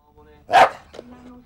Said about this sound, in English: She's sitting on the sofa watching TV while a little dog barks angrily at her, and she flinches at each bark.